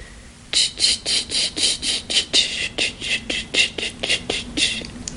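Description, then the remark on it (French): A kumazemi cicada sings loudly, a fast series of harsh, buzzing pulses repeating in a steady rhythm for several seconds, with no voices. “C'est un kumazemi. D'après ma femme, cette cigale crie dans la matinée seulement.”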